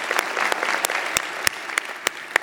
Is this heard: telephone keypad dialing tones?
no